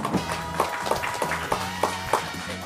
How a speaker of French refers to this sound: Vous avez pas applaudi Wally à son arrivée?